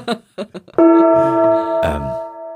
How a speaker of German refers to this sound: Wollen wir zur nächsten Frage kommen und willst du einen Gong einschlagen?